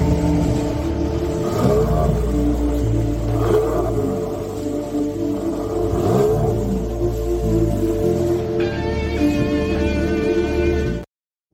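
A Mercedes-Benz car engine revs loudly, its pitch rising and falling in repeated surges for about eleven seconds, with a steady high whine joining near the end before it cuts off.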